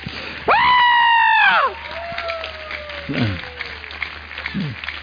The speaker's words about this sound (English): Give him another clap offering.